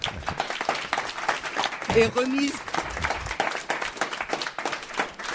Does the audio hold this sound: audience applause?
yes